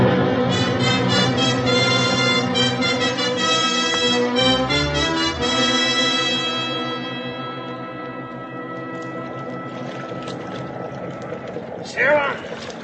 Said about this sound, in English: Now get your line out and let's get those engines revved up.